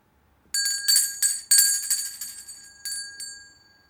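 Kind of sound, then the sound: signal or alarm, bell ringing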